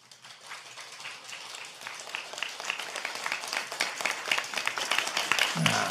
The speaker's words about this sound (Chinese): 好，既然你们鼓掌了，我就给你们讲个笑话啊！